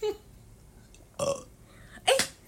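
Two burps performed live on request, fairly loud: a throaty one around the middle, then a second, stronger and more forceful belch near the end, separated by quiet pauses.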